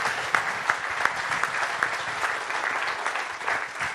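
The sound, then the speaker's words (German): An audience applauds steadily, a dense wash of clapping with a few sharper individual claps standing out at a quick, irregular rhythm, sustained at even loudness with no voices. “Das ist dein Applaus,”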